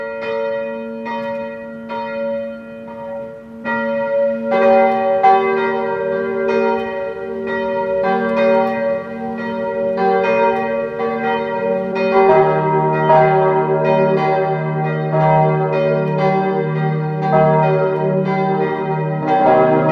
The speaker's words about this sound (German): Es ist 12 Uhr. Sie hören die Glocken der Pfarrkirche Aschbach in Niederösterreich.